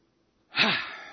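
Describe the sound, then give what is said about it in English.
A single deep, audible breath drawn in after a moment of silence as a little yoga breathing exercise, breathy and airy, tapering off slowly like a long inhale. “Deep breath. A little yoga breathing exercise, but don't do it in Aspen, Colorado, because they're convinced the devil is inside of you if you do breathing exercises, yoga breathing exercises.”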